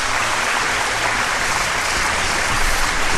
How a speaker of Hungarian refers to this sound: Na jó van. Mondja, tapsoljál meg.